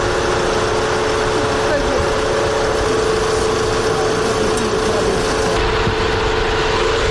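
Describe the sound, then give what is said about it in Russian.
The engine of an evacuation car idles steadily while a wounded man is put into it, a continuous low rumble with a constant droning hum that holds unchanged from start to finish. “Сейчас раненого мужчину садят в автомобиль эвакуационный и будут его отвозить как-то в более безопасное место.”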